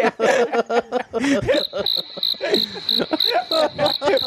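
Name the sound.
cricket chirping sound effect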